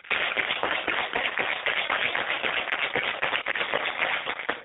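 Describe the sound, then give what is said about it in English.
A cocktail shaker holding a New Orleans Manhattan is shaken hard and steadily for several seconds, ice rattling and clattering inside in a fast, continuous, loud stream of sharp clicks with no voices over it. “Then I'm gonna shake this thing up.”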